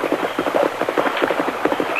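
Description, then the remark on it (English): Rapid clip-clop of a rider's horse hooves at a steady galloping rhythm, crossing a bridge heading toward the Turner Ranch, moderately loud, with a faint hiss of background noise and no voices. “Tonto, whoever that rider was, he's crossed the bridge.”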